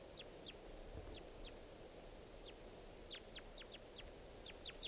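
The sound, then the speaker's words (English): A wild type 2 crossbill in the treetops gives a series of sharp, high, downslurred call notes at 6:16 p.m., about a dozen and a half in irregular bursts and pairs, clear above a steady background hiss. No voices. “Here comes a wild crossbill, 6:16 p.m. type 2 bird.”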